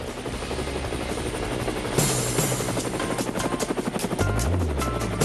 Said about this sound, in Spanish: Bueno, Edemio se suma al viaje al helicóptero y por supuesto Maite Rodríguez, y vamos atrás de a ver dónde nos lleva nuestra colega Exilda Arjona.